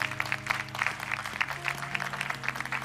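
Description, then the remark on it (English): An audience claps steadily for a few seconds, a dense crackle of many hands with a loose pulsing rhythm, over low sustained tones that sound like a keyboard or organ playing underneath. “Maybe the greatest thing to clap about, you know, when your children go somewhere, some of you remember when you were a child, but when your children go somewhere, you just don't want your children to embarrass you.”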